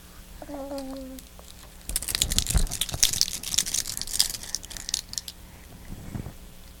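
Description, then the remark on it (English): A baby chews on toys: wet crinkling and crunching noises as the toys are gnawed and squeezed, a busy irregular stream of soft clicks and rustles, preceded by a brief high baby vocalization. “You're just chewing on everything, huh?”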